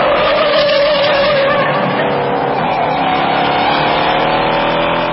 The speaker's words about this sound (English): It's the 1968 Mustang that was driven by actor Steve McQueen in the movie Bullet, believed to have been the best car chase ever filmed